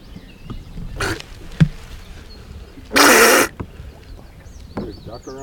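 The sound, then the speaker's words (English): A person imitates Donald Duck with a raspy, buzzing, garbled voice in short loud bursts, the strongest about half a second long, with quieter vocal sounds around it. “does a good Donald duck.”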